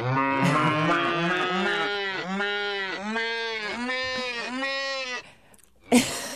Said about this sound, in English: cows. Cows, yes. Cows are funny. And so what happened was that we wanted to come up with other things that the bells could sound like.